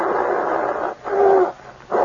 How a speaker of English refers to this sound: The air was full of the savage growls coming from the bear's throat.